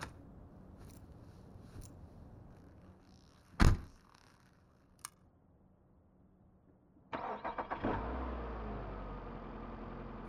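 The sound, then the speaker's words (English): A car door thunks shut, followed by a few faint clicks, then the old engine of a 1966 Mustang GT cranks briefly and roars to life, settling into a loud, steady rumble. “Yeah, the car's pretty old. Well, it's old, but still new. She's a 1966 Mustang GT.”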